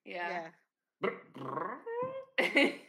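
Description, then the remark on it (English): A voice imitates the revving engine of a flying broom in several rough, buzzing bursts, the pitch rising and dipping between them, with a short gap after the first and a loud final burst. “Broom has an engine.”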